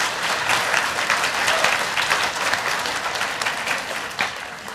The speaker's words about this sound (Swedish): Sedan kom applåderna.